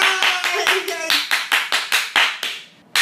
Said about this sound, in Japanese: 拍手。